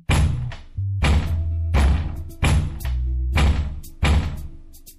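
Heavy, booming blows pound on the big door of a tower, about six slow strikes roughly a second apart, loud, each leaving a low resonant rumble between hits.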